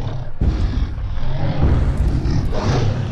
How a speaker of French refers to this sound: Les chiens se mirent à grogner et se rapprochaient de mes amis.